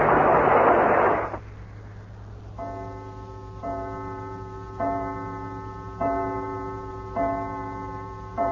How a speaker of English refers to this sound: Great heavens, there's a chime. Already it's dinner time.